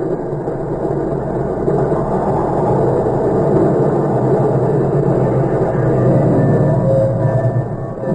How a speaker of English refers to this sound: The train barely stopped long enough for us to get off